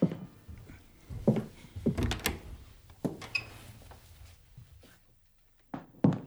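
A door leading into a kitchen is opened: a handle rattles, then a run of wooden knocks and low thumps follows, ending after a brief quiet with a sharp latch click. No one speaks.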